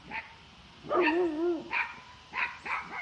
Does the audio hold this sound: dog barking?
yes